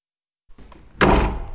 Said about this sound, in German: Lina erschreckt sich, als die Türe mit einem lauten Krach aufbricht.